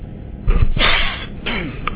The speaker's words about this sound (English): Of course, I would have to cough right as I turn on the microphone.